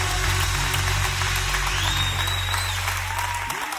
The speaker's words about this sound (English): I can't help but get happy. Let me take this watch off so I can clap right.